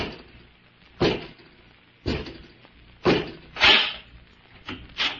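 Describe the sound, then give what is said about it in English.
A door is opened by Robot 2, a mechanical man servant, in The Avenger and the Mystery of the Giant Brain, with a series of heavy, evenly spaced thunks and clanks, about one per second, fairly loud. No one speaks. “Robot 2, open the door.”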